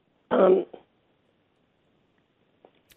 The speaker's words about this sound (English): That's okay. I'll give you just a minute to clear your throat.